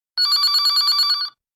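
A telephone rings as a call comes in, with a bright, rapidly trilling electronic bell, one continuous burst of about a second with no voices over it, then stops abruptly.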